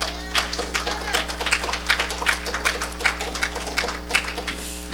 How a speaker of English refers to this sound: All right. Give him a hand clap.